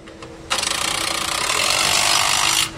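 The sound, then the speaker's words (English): A loud, steady mechanical rattle from assembly line machinery in a Navistar truck factory, where workers attach batteries to engines as half-built trucks move along the conveyor line, starts abruptly, grinds on for about two seconds with a fast clicking texture like a ratchet or power tool, then cuts off. No one speaks. “In this part of the factory, workers are attaching batteries to engines as half-built trucks trundle along the conveyor line.”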